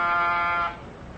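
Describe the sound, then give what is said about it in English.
An apartment door buzzer at the Baker Apartments rings loudly for just over half a second, a harsh sustained electric drone that cuts off abruptly, leaving a quieter background hum; no one answers. “No answer to the door buzzer.”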